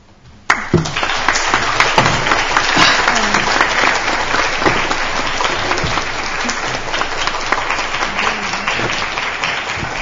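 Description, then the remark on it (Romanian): An audience bursts into applause: sudden, steady, loud clapping from many hands that starts abruptly after a brief quiet moment and keeps going at an even level throughout. “Da, acum să vă spun eu, mă gândesc să vă avertizez, dar uit întotdeauna, poate nu atât aplauze ar veni mai bine, cât un pic de respirație.”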